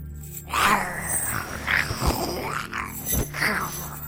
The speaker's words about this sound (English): after a minute or so, you'll hear chains rattling nearby and growling.